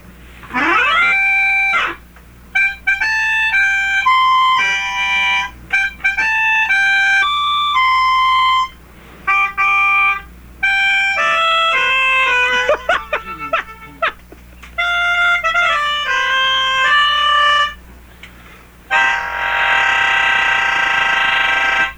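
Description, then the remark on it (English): A reedy melodica plays the Happy Birthday tune, a little unevenly and with short pauses between phrases, loud, closing on a sustained chord. No one speaks over it. “Happy birthday to Lisa from Charlene, and playing happy birthday on the melodica”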